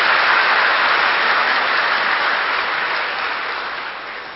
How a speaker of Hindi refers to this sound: अच्छा है, ताली बजाइए, जरूर बजाइए, कितना बड़ा सौभाग्य हम बच्चों को बाप ने कराया।